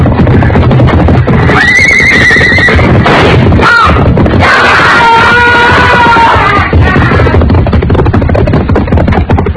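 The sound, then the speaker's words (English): A horse whinnies loudly twice, a short shrill neigh followed by a longer wavering one, over a dense, rumbling background of noise with no speech, as a man tries to get the horse out of a corral where a hayrick has been set on fire. “Look, he's trying to get a horse out.”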